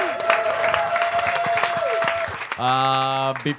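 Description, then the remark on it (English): An audience applauds a group of performers at a show with dense, steady clapping under a faint sustained tone, and a bright, loud musical chord cuts in near the end as the clapping fades. “Give these guys another round of applause.”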